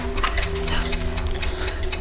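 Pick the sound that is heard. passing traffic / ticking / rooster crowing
ticking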